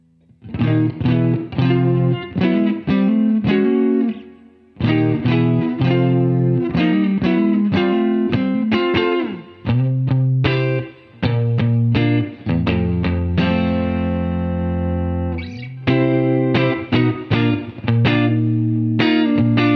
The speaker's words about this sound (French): Voilà, c'était donc le test de cette Lion, donc l'émulation Marshall de chez Universal Audio, une pédale que vous aurez l'occasion de tester chez vous